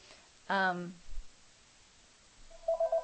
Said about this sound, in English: And now my phone is ringing. Oh, this is somebody I wanted to talk to, but it will have to wait.